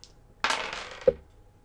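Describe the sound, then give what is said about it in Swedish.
Dice are rolled to pick a horror film by number and land on 72. They rattle and clatter across a hard surface for about half a second, ending with a sharper final knock as they settle, then quiet. “Så, nej, men det är väl ingenting att vänta på, utan nu rullar tärningen.”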